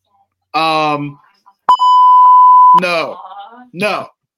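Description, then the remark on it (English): A steady, high-pitched censor bleep sounds once for about a second, loud and flat, cutting between bursts of a person talking just before and after it. “I want to make sure I have the beep button here.”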